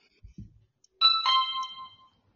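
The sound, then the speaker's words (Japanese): A person's voice imitates a bright two-note quiz show correct-answer chime, saying "pinpon", its tones lingering and fading. A couple of soft low thumps come just before it. “しピンポンって自分で言ったから。”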